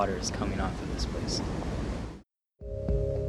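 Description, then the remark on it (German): A loud, continuous roar of meltwater from melting ice rushing down into a glacier moulin on the Greenland ice sheet for about two seconds, then a brief silence before the rushing resumes with a faint steady hum. “Diese Gletschermühle ist nur eine von Tausenden, die es im Ziergebiet Grönlands gibt.”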